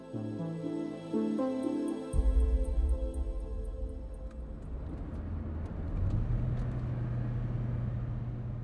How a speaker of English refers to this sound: As we drive out of Al Hol, Fahad stops the car and pulls over.